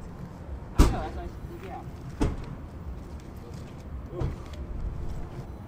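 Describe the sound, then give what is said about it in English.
A jammed car door is yanked and slammed, giving three sharp, heavy thuds a second or two apart, the first loudest, over a steady low rumble. “My door's jammed.”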